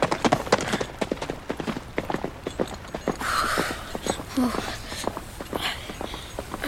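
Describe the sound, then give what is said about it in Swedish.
Horse hooves clip-clop at a steady walking rhythm as Perk rides away, taking the other soldiers with him. Several sharp knocks per second, with a soft rustle and faint creak mixed in as the horse moves off. “Han bara red därifrån och tog de andra soldaterna med sig.”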